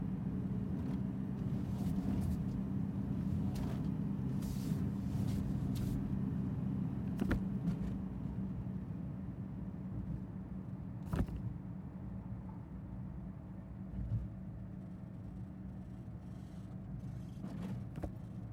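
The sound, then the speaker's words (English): A car engine rumbles steadily as the vehicle rolls slowly into a garage, with a couple of sharp creaks and clicks partway through and the motor easing down toward the end. “Almost there. Just gotta turn into the garage.”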